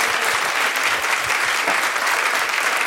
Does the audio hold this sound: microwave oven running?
no